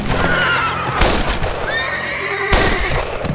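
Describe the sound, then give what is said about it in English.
A black pack horse, loud, gives drawn-out whinnying calls while two heavy hoof thuds land about a second and a half apart as it walks slowly across a clearing. No one speaks. “At that moment, Joe's black pack horse walked slowly across the clearing below.”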